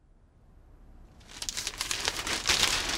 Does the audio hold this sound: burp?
no